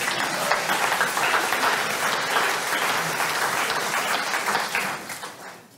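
A crowd applauds steadily, a dense wash of many hands clapping at even loudness for several seconds before tapering off slightly at the end.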